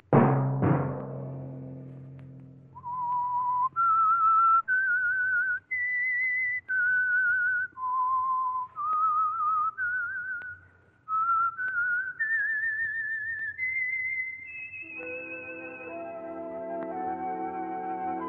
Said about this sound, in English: Let that whistle be your signal each Sunday for the Signal Oil program, The Whistler.